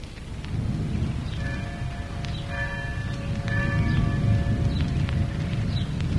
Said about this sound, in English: For consolation, we'll give three taps on the Liberty's roof bell, which found its way to the whistle blow.